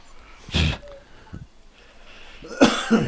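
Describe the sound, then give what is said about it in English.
A person makes mock snoring noises: three rough, raspy snorts with breathy pauses between them, the last one loudest and followed by a shorter snort, with no talking. “Yeah, I'm going to second that snoring noise you're making.”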